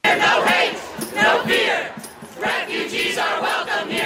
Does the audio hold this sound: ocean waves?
no